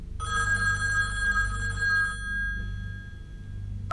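telephone ringing

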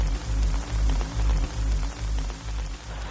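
rain falling

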